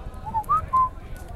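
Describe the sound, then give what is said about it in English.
Three short, thin whistles from a baby bird inside its egg, whistling back to a person who whistled to it, each a brief rising or level note in quick succession, faint against a steady low rumble of background noise. “And A baby whistled back.”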